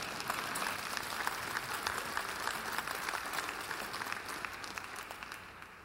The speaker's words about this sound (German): Und das Dritte heute, ja, Messdiener verdienen auch Beifall.